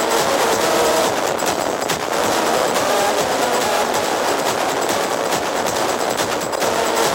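A loud, dense electronic track plays without pause, its distorted texture driven by rapid rattling pulses that clatter like machinery. No voices are heard.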